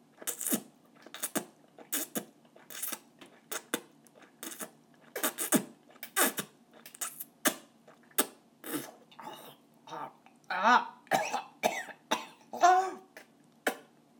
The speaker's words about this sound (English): I gag and cough and choke on it.